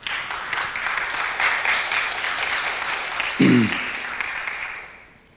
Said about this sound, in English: Give a warm applause to the reference. Thanks.